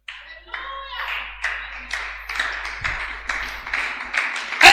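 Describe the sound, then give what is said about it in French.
A crowd claps unevenly for a few seconds, the hand strikes loose and overlapping rather than in unison, with a brief voice near the start and a sharper, louder burst at the end. “Tu applaudis comme un jaloux.”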